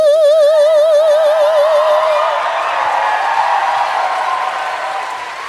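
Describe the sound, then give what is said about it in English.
An audience claps steadily and loudly throughout, a dense wash of applause that swells after a held, wavering sung note fades out in the first couple of seconds. “Now, I don't know where they learned to clap, but I taught them how to snap.”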